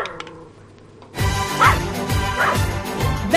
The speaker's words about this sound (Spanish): Hoy intenta ladrar nuestro perrito Tejoti al ritmo de Berti. Él lo intenta porque se pone contentísimo, porque él ha sido el primero en tener su seguro con Berti.